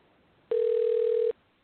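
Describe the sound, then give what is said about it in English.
A single steady telephone tone, a mid-pitched electronic beep lasting just under a second, sounds alone over a faint line hiss, like a ringback signal on an outgoing call placed from Not On Purpose Radio. “We can get somebody on the phone.”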